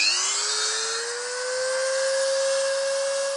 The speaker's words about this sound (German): Doch er bearbeitet ein ausgeblasenes Gänseei und fräst kleine runde Löcher in die Schale. Die Löcher haben verschiedene Größen, sodass ein interessantes Muster entsteht.